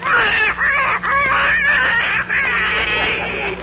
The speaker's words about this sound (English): That's an angry duck.